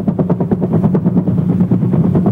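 A helicopter flies overhead, its rotor beating in a steady, rapid thumping rhythm with a deep droning hum underneath, loud and holding constant the whole time, with no voices.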